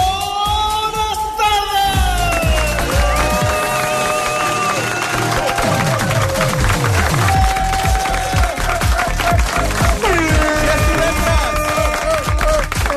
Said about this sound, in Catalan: T'han aplaudit més a tu que avui és divendres.